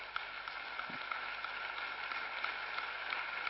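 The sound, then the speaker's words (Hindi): An audience breaks into sustained applause for ISRO scientists, a dense, steady wash of many hands clapping at once, holding at an even level throughout with no voices rising above it. “एक बार हम सभी अपने आईएसआरओ साइंटिस्ट के लिए जोर से तालियां बजाएंगे.”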